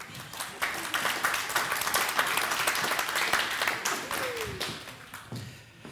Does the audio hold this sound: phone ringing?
no